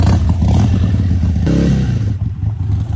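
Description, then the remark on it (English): A vehicle engine rumbles loudly and steadily, then revs up with a rising pitch partway through before settling into a rough, clattering idle. No one speaks. “Yeah, start her up.”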